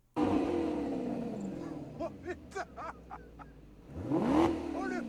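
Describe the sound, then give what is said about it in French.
A sports car engine, being tested by François Cluzet, revs loudly, pitch climbing and falling, then quiets under a low idle with brief voices before a second strong rev surges near the end. “Merci, François Cluzet qui teste la voiture.”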